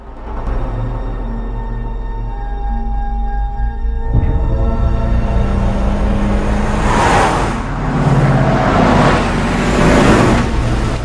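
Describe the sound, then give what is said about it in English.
A four-truck convoy, with a flatbed truck at the back carrying motor sleds, rumbles steadily along a long road past a remote reservation with deep, droning engines, then louder whooshing swells as vehicles pass. There is no talking. “Ben's truck is in front and Corey's is behind it. The flatbed truck at the back of the convoy is carrying motor sleds.”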